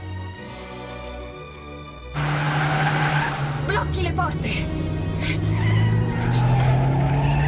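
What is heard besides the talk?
car driving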